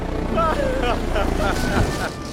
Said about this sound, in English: Whoops. Turbulence! The helicopter bobs and weaves through the sky. Whoops, wind shear! Whoops, helicopter flying upside down!